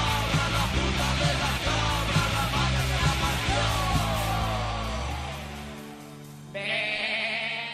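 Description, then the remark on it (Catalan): A goat bleats loudly and repeatedly in a long, wavering cry that fades near the end, followed by a brief harsher sound; no one speaks. “El titular diu així: policia que perseguia una cabra a la fuga torna amb un ase.”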